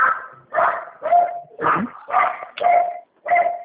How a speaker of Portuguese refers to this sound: Cachorro começou a latir.